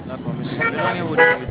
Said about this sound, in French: D'accord, monsieur. Éloignez-vous du bruit, d'accord, que je puisse entendre. Ah, je suis au bord de la route, c'est la voiture qui passe.